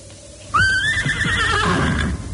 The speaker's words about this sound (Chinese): 你要小心啊，马大哥，你叫咧，周围冷清清，你叫下都好嘅。